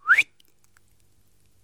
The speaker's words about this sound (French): Peu après, le chef siffla discrètement